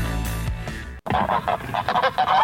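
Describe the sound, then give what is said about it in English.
A flock of geese honks loudly in a rapid, overlapping burst of calls, following a short steady tone and a brief moment of silence. “2 out of 3 geese.”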